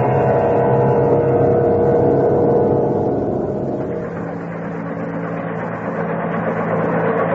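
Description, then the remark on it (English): A craft's helicopter system hums into operation after re-entry, ahead of landing: a loud, steady mechanical drone with a low engine rumble that eases slightly midway, then holds a constant hovering whir, with no voices. “Well, before we head in for actual re-entry, we activate the helicopter system.”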